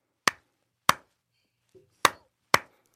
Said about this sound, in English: Well, like, I mean, I can hear your clapping. It seems pretty close, right?